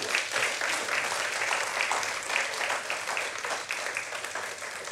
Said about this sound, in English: You look so happy this morning. Let's give a hand clap to the Lord and we'll move on.